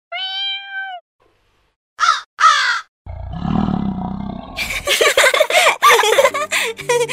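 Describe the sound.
A person imitates animals for a small play: a brief meow-like cat tone, two sharp crow caws, then a deep, growling lion roar that builds into loud, rough, rasping bursts.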